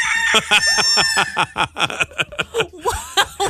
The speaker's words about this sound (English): There's a rooster on the loose? I had to deal with this vicious animal. I mean, it's a rooster.